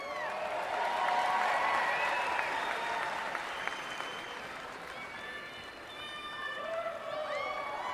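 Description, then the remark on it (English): A recording of a crowd in Cleveland cheering and clapping after a speaker congratulates Donald Trump on winning the nomination; a dense roar of applause with high whoops and shouts, swelling early and easing slightly before fresh yells near the end. “Right, big cheer.”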